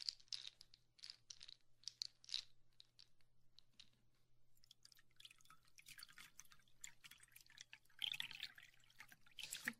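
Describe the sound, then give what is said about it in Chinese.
Water pours into a cup, starting as sparse dripping splashes and building into a steadier, fuller trickle toward the end. The sound stays fairly quiet, with no one talking. “我呢，去给你倒一杯水哦，因为我也有点口渴了，我也要去喝点水哦，渴死了。”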